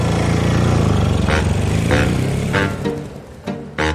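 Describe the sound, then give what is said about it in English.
A band's drummer John Bonham's motorcycle, driven through the lobby of the Chateau Marmont hotel, rumbles loudly, holding a steady low drone with several short throttle bursts and revs toward the end. No one speaks. “Drummer John Bonham apparently drove his motorcycle through the lobby.”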